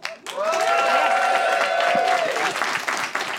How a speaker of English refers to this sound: People only applauded that because I gestured. It was under duress.